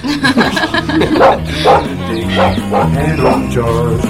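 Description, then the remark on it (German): A dog barks repeatedly in short, bright bursts over a steady musical backing, the barks evenly spaced, with no speech. “der Hund”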